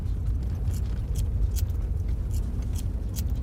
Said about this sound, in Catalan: De negra nit, el cotxe avança per un camí de terra.